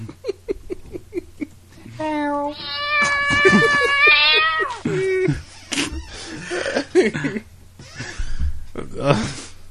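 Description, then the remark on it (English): A voice imitates a cat with one long, wavering meow lasting a couple of seconds, loud, rising and falling in pitch, with brief bursts of talk and noise before and after. “Except for his cat.”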